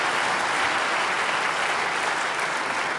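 An audience applauds steadily for Microsoft having disabled Autorun for Windows XP, a dense wash of many hands clapping at even loudness for the whole stretch, with no voices standing out.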